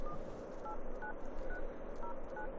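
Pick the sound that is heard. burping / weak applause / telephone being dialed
telephone being dialed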